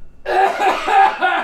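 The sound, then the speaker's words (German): A person coughs, a loud, harsh run of about three rapid coughs in quick succession with no talking around them. “Also, warte mal kurz, ich muss kurz husten.”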